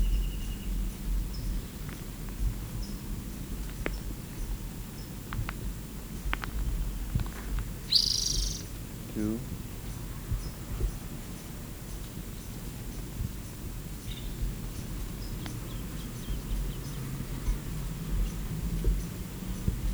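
bird chip calls

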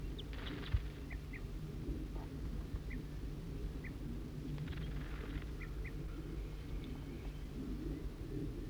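bird alarm calls

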